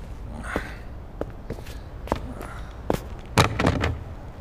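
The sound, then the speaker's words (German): A building's door clunks open, then several footsteps sound on a hard floor at a moderate pace as people enter, ending with a louder cluster of knocks and shuffles, no talking. “Der Professor ist in diesem Gebäude. Ist die Tür offen? Ja, das müsste sie eigentlich sein.”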